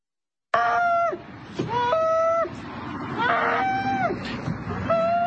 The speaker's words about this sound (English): Morning on the farm. The rooster crowing. It's like, shut up. Shut up.